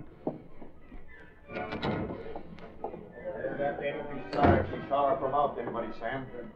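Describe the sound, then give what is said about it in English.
A kitchen service door swings shut with a solid thunk, followed by a second heavier knock, while indistinct voices murmur in the background throughout. “Sounded like the service door in the kitchen.”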